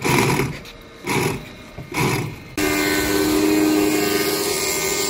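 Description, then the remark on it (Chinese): A small, simple and cheap two-stroke piston model aircraft engine at a model aircraft competition roars loudly, revving in three rough bursts before settling into a steady, high-pitched buzzing drone. “比赛有11个项目，飞机发动机有电机，有涡喷，还有这种两冲程活塞，结构简单又便宜，工作起来嗷嗷叫。”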